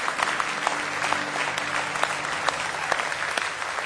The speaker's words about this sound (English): Oh, give him one more good hand clap of praise tonight. If you love him.